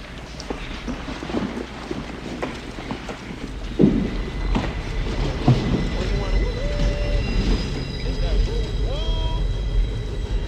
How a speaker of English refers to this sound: Sounds like a train. Uh-uh. These lines have been abandoned for 50 years.